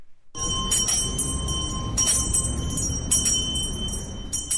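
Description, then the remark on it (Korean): A Salvation Army volunteer beside a red charity kettle on a US street at year's end rings a hand bell in repeated, uneven bursts of bright metallic clangs with a lingering high tone, over a steady low rumble of street noise. “냄비 옆에는 자원봉사자들이 종을 이렇게 딸랑딸랑 흔들면서 사람들의 후원을 기다리는데요.”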